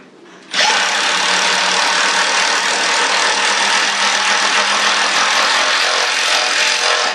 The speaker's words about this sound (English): So that was an impact driver that I borrowed. I had a little woodwork project going, and I needed